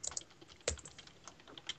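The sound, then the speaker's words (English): Quick, irregular clicking of keys on a computer keyboard as an answer is typed in, fairly quiet, with one sharper keystroke standing out midway; no voices. “I'm typing.”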